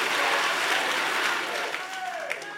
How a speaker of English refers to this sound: Clap your hands and angrily shout, from today I change my language.